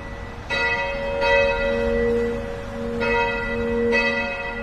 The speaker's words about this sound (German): Dreimal am Tag läuten in allen katholischen Kirchen die Glocken. So auch in der Kirche St. Aldegundis in Rheindorf, einer der 24 katholischen Kirchen in Leverkusen.